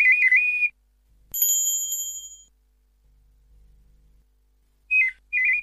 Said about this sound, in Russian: Искусственный соловей пел 33 раза одну и ту же мелодию без устали. Мог петь и больше, и почти так же, как настоящий соловей.